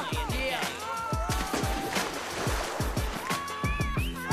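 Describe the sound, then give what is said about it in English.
Water splashes and churns continuously, fairly loud, as people jump into a swimming pool and one throws others into the water, with excited voices and shouts mixed in throughout. “Resurfacing, Tracy throws Murph into the water, then hurls Calvin.”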